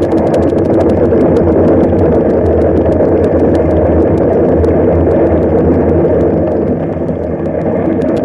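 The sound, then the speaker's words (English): Dozens of wild horses stampede through a valley, flowing around both sides of a stagecoach: a dense, continuous rumble of hooves pounding the ground, with countless sharp overlapping thuds over a deep, steady roar. It stays loud and unbroken throughout, with no voices. “Dozens of wild horses trampling the ground and flowing on both sides of the stagecoach like a leaping flood around a rock.”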